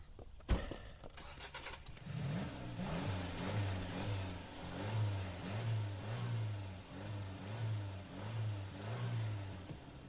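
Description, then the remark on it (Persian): A car engine cranks and catches after a sharp click, then settles into a steady mid-pitched run with rhythmic revving pulses as the vehicle pulls away, alone. “تو بیا بیا، تو رو با ماشین خودم میبرم.”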